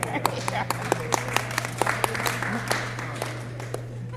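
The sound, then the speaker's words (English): A thin, scattered round of polite clapping from just a few hands, the claps coming fairly steadily for a few seconds and tapering off, with a low steady hum underneath. “That felt like pity clapping.”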